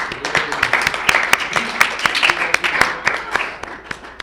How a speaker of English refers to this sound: I'd like to get a quick round of applause for our wonderful speakers. And can we also get a round of applause for all the people here, current and prior service?